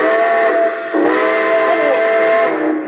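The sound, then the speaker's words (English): A steam train whistle blows loud as train number 31, the Cinder Bucket, departs from track 3, a sustained harmonic wail that dips briefly near the middle and swells again, held for about three seconds with no voices. “Train number 31, the Cinder Bucket, now leaving on track 3. Board!”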